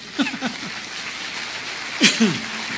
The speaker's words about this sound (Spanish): ¿Cómo la ven? ¿No le da un aplauso al Señor?